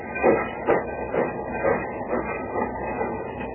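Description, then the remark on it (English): A departing train rolls along with a steady, rhythmic clatter, regular thumping beats repeating about twice a second over a continuous mechanical rumble, moderately loud, with no voices. “Mamma mia, 1 minute on the train and it's already feeling like a 1 year.”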